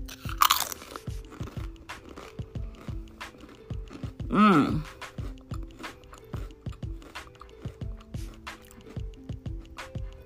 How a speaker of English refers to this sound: Today, I'm going to talk about favorite crunchy stuff. Crunchy eats. And what I'm crunching on right here is these chips.